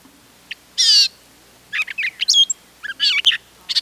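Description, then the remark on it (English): A mimicking songbird strings imitated sounds together into a jumbled song of varied notes: whistles, chirps, squeaky trills and short harsh bursts, delivered in quick irregular phrases, clear with no talking. “They string all the sounds together in a jumble to produce their song.”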